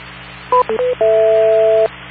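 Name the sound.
incoming phone call tones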